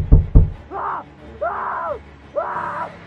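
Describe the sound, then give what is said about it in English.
Two heavy, dull thumps land in quick succession as a man slams his fists against a car window, followed by three drawn-out, wordless, incoherent shouts from him. “He was slamming his fists against the window and shouting incoherently.”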